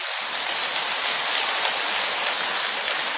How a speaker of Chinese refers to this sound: 如果还想改的人，就跟我鼓掌鼓了响一点。